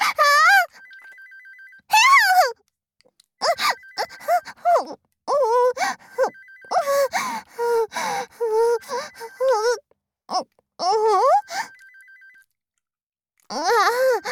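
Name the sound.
smartphone ringtone ringing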